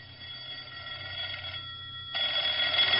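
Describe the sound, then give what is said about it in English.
A telephone rings steadily in an apartment with a bright, buzzing electronic tone, growing louder and harsher partway through, with no voices present. “The phone was ringing as I stepped into my apartment.”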